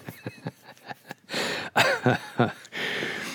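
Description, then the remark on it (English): A loud bout of coughing and throat clearing: several short, sharp coughs at first, then longer raspy hacks and harsh clearing sounds that run together, with no speech. “Sounds like I got the smoker's cough.”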